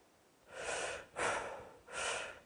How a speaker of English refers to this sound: You'll see the radar pulse drop away, and then I'll start breathing heavily, and the radar will pick up my heavy breathing. So here we go.